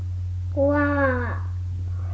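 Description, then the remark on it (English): A voice imitates a lion's roar with a single drawn-out, harmonic-rich cry that slides slightly downward in pitch, heard over a steady low electrical hum. “What noise does a lion make?”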